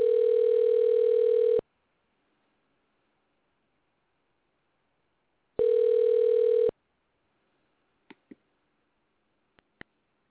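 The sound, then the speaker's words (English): A telephone dial tone after a dropped cell phone call: a steady, mid-pitched electronic tone sounds twice in loud bursts separated by silence, followed by a few faint clicks and taps. “Gotta love cell service. Dropped.”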